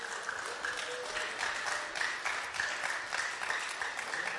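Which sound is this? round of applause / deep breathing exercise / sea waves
round of applause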